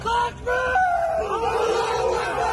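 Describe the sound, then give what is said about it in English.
A group of Chechen fighters helping Russia shout loudly together in celebration while raising a Soviet flag in the city of Lysychansk, Luhansk region, Ukraine; overlapping cries and cheers rise and hold for a couple of seconds, energetic with no clear words. “Footage released by Chechen fighters helping Russia showed them raising a Soviet flag in the city and shouting in celebration.”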